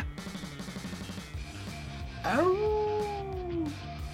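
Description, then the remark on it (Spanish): A person imitates a wolf howl: one loud, drawn-out cry that swoops up, holds a wavering tone, then slowly slides down and fades, over a quieter steady background. “No sé si hiciste el aullido y no se oyó, o no lo hiciste, pero me quedé esperando que se oyera.”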